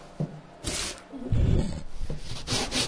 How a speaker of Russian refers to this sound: Берем наждачную бумагу и... Вот нашу деревянную, будем говорить, наш деревянный брусочек с лицевой стороны, вот где у нас вырезана сама форма уже, мы начинаем по плоскости проходить по наждачной бумаге, то есть убираем верхний ворс.